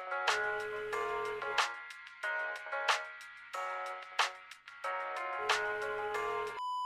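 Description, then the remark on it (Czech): A ringback tone on a phone call: a looping electronic melody of bright, steady tones with rhythmic accents, playing alone and clearly, then ending with a short pure beep. “vole, vem to.”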